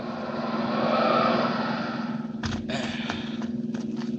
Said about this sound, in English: Wait. There's a car coming up the road with two men in it.